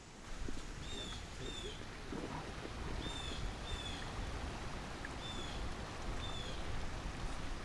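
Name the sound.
river water flowing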